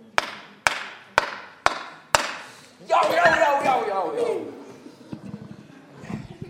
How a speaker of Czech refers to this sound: Tak já teď možná nebudu chvilku slyšet a já vám předvedu, jak se zatlouká hřebík. Takhle vezme kladivo, dřevíček a začne se bouchat.